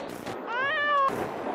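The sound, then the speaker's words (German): A single high, drawn-out kitten meow rises and falls in pitch, fairly loud over a soft background hiss, with no one talking. “Da ist wieder das Katzenbaby.”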